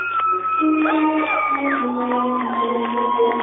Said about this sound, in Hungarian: Tömeg tombol, és jól teszi, hogy tombol a tömeg, így kell, így kell.